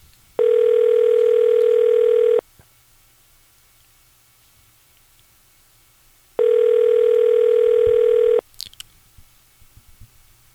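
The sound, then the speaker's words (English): An outgoing call to Haupt Monument Company on a 740 area code number: the ringback tone buzzes twice, each steady ring lasting about two seconds with a long silent pause between, clear, followed by a few faint clicks. “We'll have to put a 740 on this number. You know, this might ring in anywhere at this point.”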